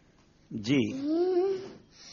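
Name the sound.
cat meowing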